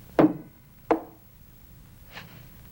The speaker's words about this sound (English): Wiping the mold with a cloth, he uses a pair of pliers to knock off the excess silver.